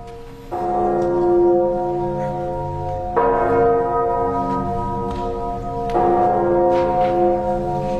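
Church bells toll three times at a slow, even pace during a Te Deum, each deep strike ringing on into the next over a low, steady rumble, with cannon shots in the distance and no voices present.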